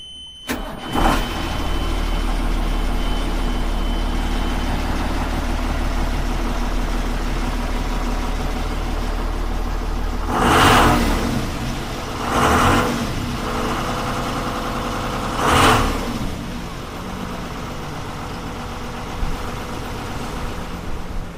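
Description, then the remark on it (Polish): The engine of a Masurian Volunteer Rescue Service (Mazurskie Ochotnicze Pogotowie Ratunkowe) rescue cutter, used for technical rescue operations, idles with a steady, low rumble, then surges in three loud revs spaced a few seconds apart before settling back to its idle drone. No voices are heard. “Znajdujemy się teraz na jednym z naszych kutrów.”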